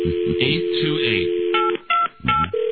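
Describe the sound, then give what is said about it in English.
A phone number is dialed: a run of short touch-tone beeps in quick, uneven succession, each a steady electronic pitch, with voices murmuring underneath at the start. “We'll call him.”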